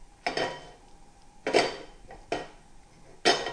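A metal cooking pot with about a teaspoon of oil in it clanks down onto a stovetop to be heated, with four separate knocks and scrapes spaced a second or so apart, fairly loud, each ringing briefly. Nobody speaks.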